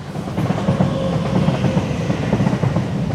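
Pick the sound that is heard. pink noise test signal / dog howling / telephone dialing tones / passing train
passing train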